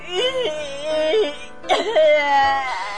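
A child sobs and wails, two drawn-out, wavering cries with a short catch of breath between them, fairly loud with no talking.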